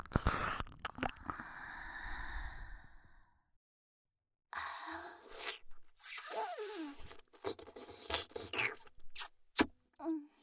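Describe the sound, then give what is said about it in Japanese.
Wet mouth noises of licking and smacking come in quick, irregular bursts with soft breaths between them. They pause briefly, then resume more intensely. No one speaks. “ペロペロペロペロ。”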